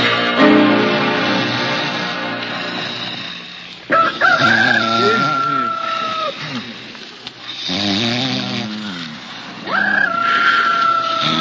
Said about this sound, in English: What's that? What's that? So what's to get excited? A rooster? A rooster? You know, a he chicken. Holy cow, it's daylight already.